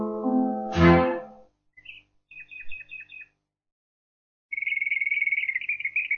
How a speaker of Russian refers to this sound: Слышите? Соловьи. Да, соловьи. Бессменные спутники влюбленных.